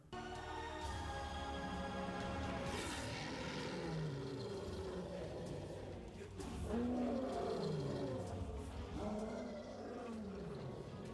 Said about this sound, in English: After defeating Scar, Simba reclaims his throne and roars, magically restoring the Pride Lands to its former glory.